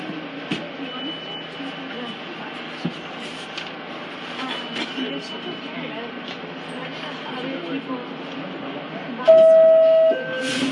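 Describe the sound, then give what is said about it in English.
A 1 train subway rumbles steadily between stations with the next stop announced as 50th Street, a continuous loud clattering roar with occasional knocks, faint murmuring voices underneath, and a brief high metallic squeal rising near the end. “take the South Side 1 train. Next stop will be 50th Street. Stand clear of the doors, please.”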